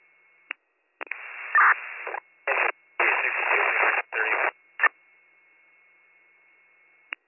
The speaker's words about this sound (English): Unit calling in, you're all static. Unit calling in, you were all static.